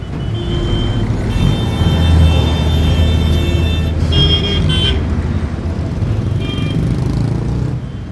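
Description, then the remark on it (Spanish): Dense rush-hour street traffic on the main streets of Gaza rumbles steadily, with engines of new and battered cars droning and a few car horns honking in short bursts partway through, all set against a constant low roar of vehicles. “Este es uno de ellos, el de su intenso tráfico en las horas punta, retenciones y caos circulatorio en las principales calles en las que comparten carril coches de última generación y otros destartalados.”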